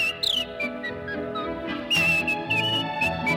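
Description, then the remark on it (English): A bright, lively human-whistled melody in polka time with quick trills and leaps, over a bouncy instrumental backing that keeps a steady dance rhythm. “Yodel, and the whistle bright as polka time.”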